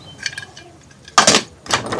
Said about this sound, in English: He locks the barn door.